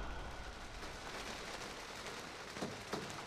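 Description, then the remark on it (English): Soft, steady hiss of rain falling outside the window of a hut in Tongariro national park, New Zealand, an even wash of patter with a couple of sharper drip-like taps near the end; no voices. “Rain falls outside the window of my hut quarters.”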